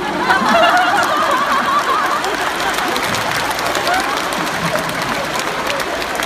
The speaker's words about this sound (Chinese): 好的，先鼓掌，互欣赏。